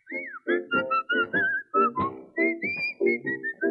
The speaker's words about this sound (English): Come on, let's all whistle for the dog. See if we can find him. Come on, go on, look for him.